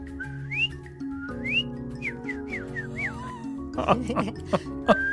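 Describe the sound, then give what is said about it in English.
A person whistles a cardinal's call: a series of clear, slurred rising notes, then quicker short chirps and a longer falling slide, over a steady low hum, ending in louder, noisier bursts. “Yeah, it's my cardinal.”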